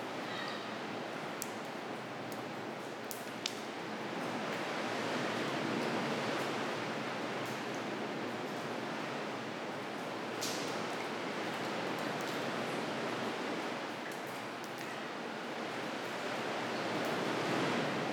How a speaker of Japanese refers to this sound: この日、飛島付近は50センチにも満たない穏やかな波でしたが、無人島付近は波が荒く、上陸するだけで一苦労しました。